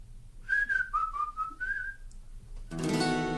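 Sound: person whistling a tune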